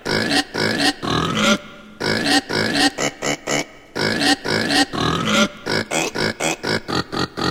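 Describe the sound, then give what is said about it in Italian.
A human voice imitates a pig as part of an animal-sounds song, snorting out a long run of loud, rhythmic grunts and oinks in quick bursts with brief pauses, growing choppier toward the end. “Bene, cominciamo con maiale, the pork.”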